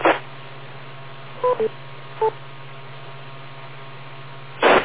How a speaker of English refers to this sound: Wait for the beep.